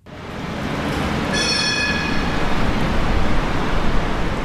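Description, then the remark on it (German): A subway train rumbles loudly and steadily at Vienna's Praterstern U-Bahn station, in the dark and rain, and after a moment a high, thin metallic squeal of wheels rises over the roar and holds. No one speaks. “Der Vorplatz des Wiener U-Bahnhofs Praterstern ist kahl, es ist dunkel und regnet.”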